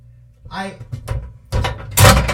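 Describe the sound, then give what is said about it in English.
A microwave oven clicks on: a couple of loud, abrupt mechanical clunks about half a second apart, following a brief murmur of voice. “And I heard it click.”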